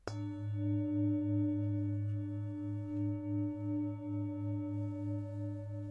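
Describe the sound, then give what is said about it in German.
A meditation gong is struck once, then rings on for several seconds with a deep, pulsing hum and steady bright overtones that fade only slowly, with no voices. “Und wenn der Gong ertönt, dürfen Sie Ihre Augen zunächst einmal geöffnet lassen.”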